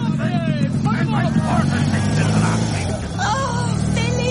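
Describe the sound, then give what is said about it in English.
A motorbike engine drones steadily and loudly throughout, its low rumble running beneath overlapping voices, as if the bike is already under way and pulling off. “get onto my motorbike, quick.”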